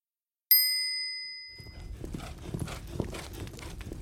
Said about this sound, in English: "I hear a horse," thinks the man. It is a cowgirl on a black horse.